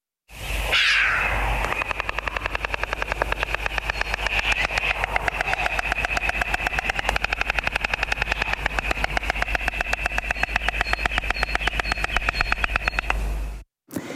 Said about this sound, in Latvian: Tādas lūk skaņas Latvijā dzirdēsim arvien vairāk, jo sāk atgriezties stārķi.